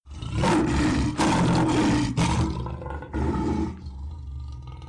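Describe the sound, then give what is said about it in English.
A lion, Leo, the ferocious lion of the forest of Nemea, roars loudly: a run of deep, rumbling bursts, then a brief pause and one more roar trailing off into a low growl. “Leo was a ferocious lion in the forest of Nemea.”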